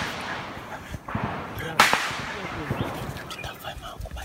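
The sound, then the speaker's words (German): A single sharp gunshot crack rings out near the middle, loud and sudden, with a faint earlier snap and a steady rustling outdoor background, in a jungle full of trees, branches and bushes, as gunshots come closer again. “Lisa wird auch einfach nervös, weil die Schüsse irgendwann wieder näher kommen.”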